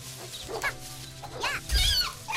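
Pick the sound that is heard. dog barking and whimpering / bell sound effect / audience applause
dog barking and whimpering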